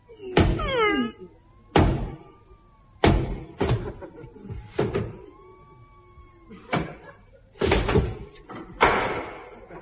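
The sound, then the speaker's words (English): Heavy, booming knocks pound on a castle door, about eight loud blows in uneven spacing, some in quick pairs, with faint creaking, whining tones between them. “Ah, a door. O'Brien, lay out my knocking on door suit. Now, lift me up and I'll knock.”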